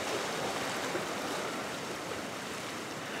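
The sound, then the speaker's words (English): A steady, full rush of Pacific Ocean surf washing along the shore at Westcliff Drive in Santa Cruz, California, just before dawn, a continuous broad roar with no distinct individual breakers and no voices. “And a writer named Ellen Bass, who's published a number of poems in The New Yorker, is taking her daily walk along the ocean near her home in Santa Cruz, California.”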